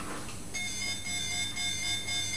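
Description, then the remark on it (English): A toy mobile phone sounds an electronic warning tone imitating a skip lorry reversing: a bright, buzzy, steady note that begins after a brief rustle and holds for about two seconds, with no talking. “Oh, well, you're using a toy mobile phone to make the sounds of a vehicle reversing.”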